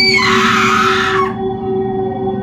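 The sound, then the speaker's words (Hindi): A soft voice in a hotel room suddenly turns into a loud, shrill scream that rings out for about a second over a low, eerie droning hum, then cuts off abruptly while the steady drone carries on. “पर कमरे में लौटते ही उन्हें किसी की आवाज़ें सुनाई देने लगी और अचानक वो धीमी आवाज़ एक चीख में बदल गई।”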